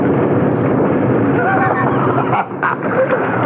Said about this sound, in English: Will you look at that? Wow, it begins to rain. It couldn't have rained last night to hide us.